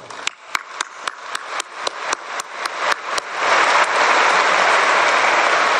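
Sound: audience applause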